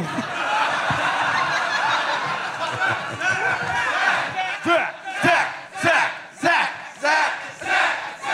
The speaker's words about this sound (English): This crowd's fire. It's exciting and worrisome how quick they are to chant. You know, it's makes me feel like they had a lot of practice, you know, but.